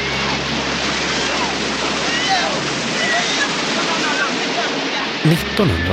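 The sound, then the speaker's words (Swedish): Steady, roaring surf washes continuously as boat refugees are helped ashore and children and women are carried through the waves. It forms a dense wall of water noise with faint, indistinct voices mixed in, and there is a brief bump of movement near the end. “han själv vadar ut i vågorna och bär flera barn och kvinnor i land.”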